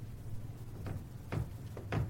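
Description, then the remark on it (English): The doors of a large mirror-doored wardrobe in a room with several beds are tugged several times, giving a few short, dull knocks and rattles over a steady low hum. The sounds are fairly quiet, with no one speaking. “She goes to the wardrobe and pulls on the doors.”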